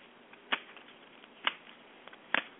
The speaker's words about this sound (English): All right. Let me shuffle the cards. Let me know when your energy's in there.